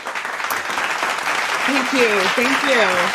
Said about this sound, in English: play the clap. Make it clap. Make Riverside slap.